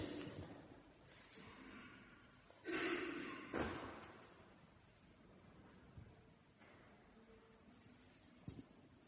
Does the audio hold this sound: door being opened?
yes